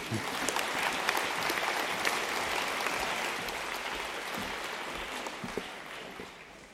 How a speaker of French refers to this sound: Merci de l'applaudir.